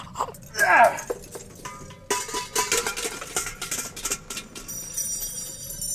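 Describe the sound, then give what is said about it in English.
Metal cooking pans clatter and clang as they tumble down a rock crevice, a busy run of ringing clanks and bangs after a short vocal grunt. “And if it's all got to go, then it's going down one of these crevices.”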